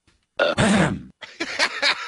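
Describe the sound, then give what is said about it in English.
A muffled burp is held back in the throat, followed by a second run of choked, throaty bursts, with no talking. “Hold on, I've got one of those burps coming up.”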